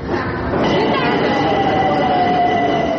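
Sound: subway train running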